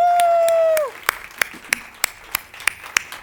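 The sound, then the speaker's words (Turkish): Audience applause in a steady, rhythmic beat of sharp claps at an even pace, following a sustained tone that fades out; moderately loud. “Çok güzel, kocaman alkışlarınızla üretim bandı.”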